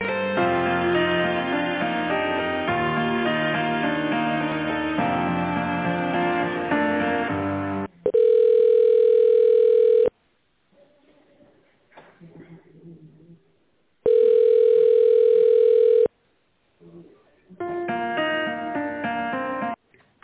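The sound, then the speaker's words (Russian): Hold music gives way to two long, steady telephone ringback tones, each about two seconds at a mid pitch with a quiet pause between, before the music returns, as a call is being transferred. “Минуту, я вас переведу.”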